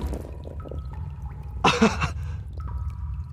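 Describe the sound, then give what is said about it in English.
A bucketful of water is dumped on sleeping Jonah aboard a ship to wake him, in one sudden, loud splash lasting under half a second, set against a steady low rumble and faint tonal creaks. “Somebody get a bucket of water and wake up sleeping Jonah.”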